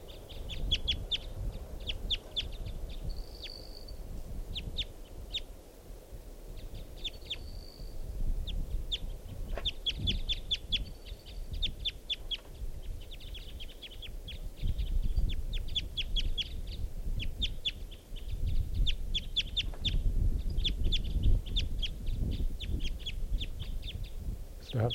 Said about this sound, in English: Wild bird. That's the female.